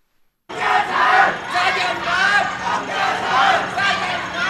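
A large crowd on both sides of a broad boulevard in the northeast of Hong Kong Island shouts insults at police after a shooting, angry overlapping waves of voices, loud throughout with rising surges, after a brief silence at the start.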